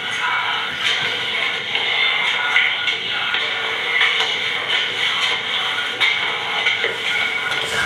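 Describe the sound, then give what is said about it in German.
Faint, muffled footsteps on the stairs of a house stairwell, picked up at 10:44 by a sensor microphone, spaced roughly once a second, half-buried under a steady loud hiss and rumble, with the gain turned way up. “Eindeutig. Das sind Schritte. Ja, die Treppen.”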